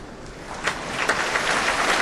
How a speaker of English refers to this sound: The applause you're hearing is for the leader of the BBC Scottish Symphony Orchestra, Laura Samuel.